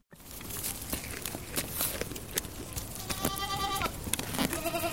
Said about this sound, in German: Eine Herde Ziegen streift durch den Wald. Auf dem Weg fressen sie Grashalme, vertrocknete Blätter und zupfen den ein oder anderen Leckerbissen von kleinen Bäumen und Sträuchern herunter.